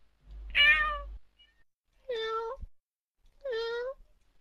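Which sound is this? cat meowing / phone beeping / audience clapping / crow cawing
cat meowing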